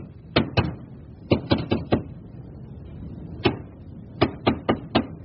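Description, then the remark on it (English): Someone knocks from behind wooden wall paneling between a parlor and a staircase: a couple of quick raps, then a run of four, a lone knock, and another quick run of four, moderately loud with no talking. “There's someone behind the paneling.”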